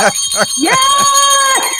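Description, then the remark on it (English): A person vocally imitates a ringing bell: a couple of quick syllables, then a long, steady, bright "ding" held for about a second, fairly loud. “I don't have a bell yet to ring. I'm gonna ring it for you.”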